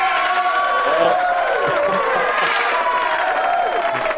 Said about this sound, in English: Finally, we got the applause in there.